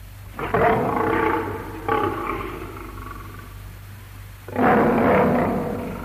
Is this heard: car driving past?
no